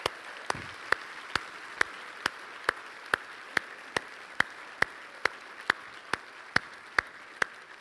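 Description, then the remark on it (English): An audience applauds to thank the teardown people, who stand to be honored, with sharp claps landing in a steady, even rhythm roughly twice a second over a continuous wash of clapping. No one speaks. “They just don't like getting applause.”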